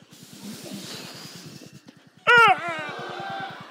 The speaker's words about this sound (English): So blow out all your air and then scream as loud as you can. Make sure you get all your air out though. Ready? One, two, three, go.